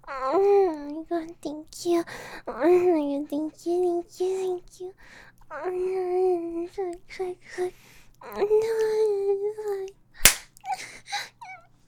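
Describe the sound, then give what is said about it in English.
A single sharp, loud slap on skin cracks out near the end, after a stretch of high, drawn-out vocal whimpers and cries. “Why'd you slap me like that”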